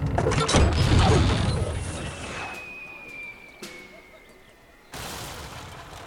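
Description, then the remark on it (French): A trebuchet hurls a projectile: a loud mechanical crash and rumble fades into a thin whistling as the projectile flies off, then a sharp knock and a burst of noise as it hits. “Trébuchet!”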